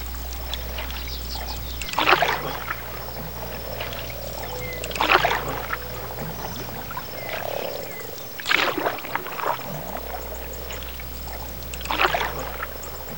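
A canoe paddle dips and swishes through sunlit water at dawn in slow, even strokes, four splashes spaced about three seconds apart, with a low steady hum underneath and no talking.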